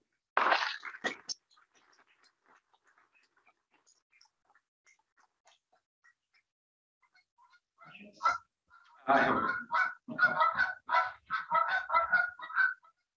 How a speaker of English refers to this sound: The geese have a question.